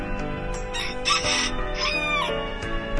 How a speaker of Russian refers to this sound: Только что она стала подходить к дому, как петух, которого она всегда кормила, увидел ее, обрадовался, взлетел на забор и закричал: «Кукареку, кукареки!